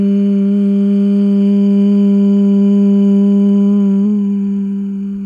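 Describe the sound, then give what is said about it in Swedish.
A long, steady hum of the word "hum", voiced on an out-breath after breathing in through the nose during a breathing exercise, held on one low pitch for about five seconds, fairly loud, with a slight wobble near the end as it fades a little. No talking. “Andas ut för att börja. Hum.”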